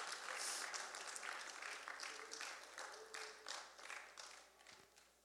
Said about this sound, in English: Shall we rise? Give the Lord a big round of applause.